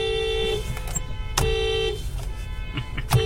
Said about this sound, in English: That's a lot of horns right now. Did not expect a horn section. I bet you the person who also honked, the other person who have honked, was also not from Sydney.